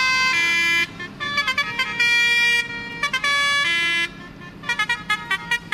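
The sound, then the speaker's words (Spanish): Musical horns of tractors at a tractor protest in Ávila, Spain, blare in overlapping, tuned phrases, with long sustained notes alternating with rapid staccato bursts of melodic honking, loud and continuous over a low rumble of engines, with no talking. “Los pitidos musicales estos de los tractores sonaron este martes durante todo el día en Ávila hasta el anochecer y en algunas de las principales vías.”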